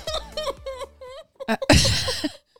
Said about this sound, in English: Did you just burp, sneeze, and cough at the same time?